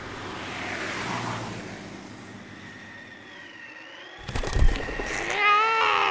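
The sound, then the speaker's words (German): Steady road noise swells and fades as many cars rush past on a street, followed by a sharp louder burst and a rising tonal whine at the end; no one speaks. “Die Straße. Aber wie komme ich darüber? Da sind so viele Autos.”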